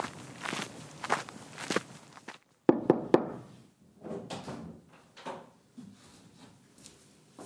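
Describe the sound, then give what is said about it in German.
Footsteps shuffle along, then three sharp knocks on the door of a modest inn ring out in quick succession before the walking resumes. No one speaks. “Klopft doch da drüben an die Tür.”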